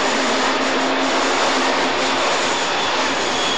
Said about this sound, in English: And there's an electric train now just coming by me on my left to Richmond.